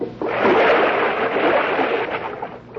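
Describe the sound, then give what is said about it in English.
A body drops from a window into a rain barrel of water with a heavy splash, followed by a few seconds of loud, churning sloshing before it settles. No voices are heard. “Doggone it. Left that rain barrel there.”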